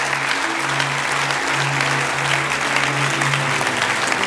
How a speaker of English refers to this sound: Give the Lord a clap offering, would you? Thank you, Lord.